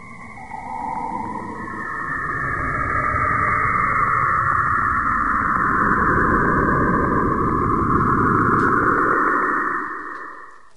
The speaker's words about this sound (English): Kind of creepy and eerie, isn't it? I love it. It's weird. So what is it? That is radio waves from Saturn. In fact, picked up by the Cassini spacecraft.